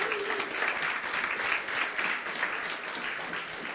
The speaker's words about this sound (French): Sont là, on peut les applaudir.